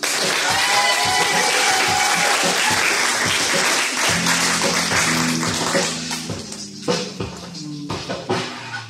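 An audience at a weekly Tuesday poetry open mic breaks into steady, dense applause for a poet coming to the stage, holding strong for several seconds, then thinning out into scattered claps as sustained low musical notes begin underneath.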